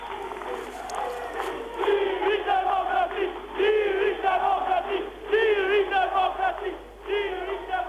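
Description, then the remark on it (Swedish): A large crowd, mostly young people, chants 'freedom, democracy' in unison at a packed Democratic Party election rally in Tirana, loud rhythmic phrases rising and falling in pitch, repeated several times with short breaks between the bursts. “Frihet, demokrati, frihet, demokrati. Ropen skallar när Demokratiska partiet håller valmöte.”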